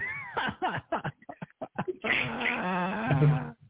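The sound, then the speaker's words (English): A cat makes noise: a quick run of short, choppy chirps and meows, then a long, wavering yowl that holds for over a second before cutting off. “Because of the cat. Because of the cats.”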